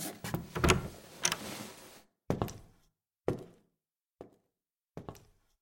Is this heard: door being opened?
yes